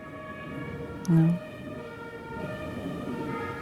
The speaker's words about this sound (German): Wenn wir gerade hier die Martinshörner hören, kamen die auch öfters bei euch vorbei?